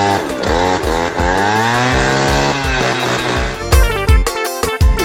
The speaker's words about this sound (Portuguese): Tô andando de jet ski, escuta o barulho aí, ó.